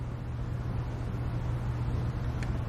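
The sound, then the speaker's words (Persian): The engine of a privately owned jeep, not a military vehicle, runs steadily with a deep, continuous rumble and a faint hiss above it, holding an even level throughout with no voices. “این یه ماشین نظامیه؟ نه، این جیپ مال خودمه.”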